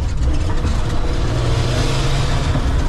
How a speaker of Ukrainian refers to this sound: Машини.